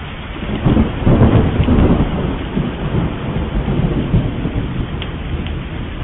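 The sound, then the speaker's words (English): Steady heavy rain pours down with low, rolling thunder rumbling through it, loud and continuous, with no voices present. “Then it started to rain.”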